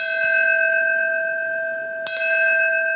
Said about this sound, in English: It began with the ringing of a fire department bell rung in the traditional signal for a fallen firefighter, 20 peals in all.